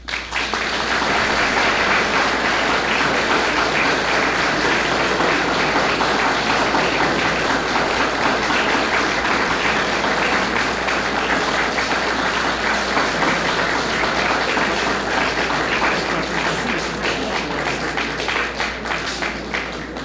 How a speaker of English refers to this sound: I can see by your applause that you were all inspired by the manner in which Rabbi Lamb told of the life of a great Jew, a great man in the history of the world, one who, with his actions, inspired everyone who came in contact with him.